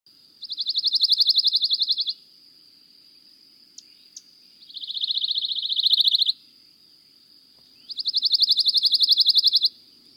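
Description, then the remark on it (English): A pine warbler's dry, rapid trill repeats three times, each burst a steady buzzy run of even notes lasting under two seconds, with short pauses between, clear over faint background hiss. “That was a dry trill of a pine warbler.”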